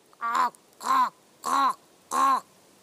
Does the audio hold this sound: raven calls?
yes